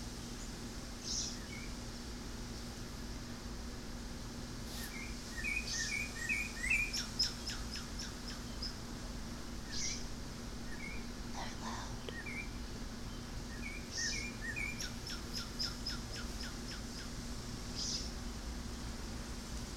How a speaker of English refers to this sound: Anybody want to tell me what those birds are?